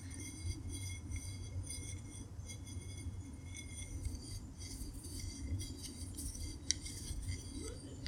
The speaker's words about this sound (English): And I'm gonna drink some water, take a water break as I fill up my bottle for ASMR sounds.